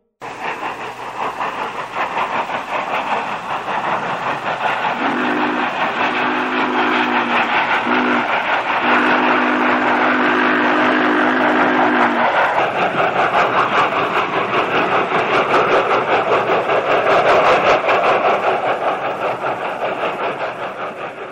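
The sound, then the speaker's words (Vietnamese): A train rolls slowly along the tracks, rumbling steadily with a constant clattering roar, and partway through a sustained low horn sounds in several drawn-out blasts before the rolling noise continues. “Anh ta chạy theo đoàn tàu đang lăn bánh chậm chậm, tay đập cửa liên hồi.”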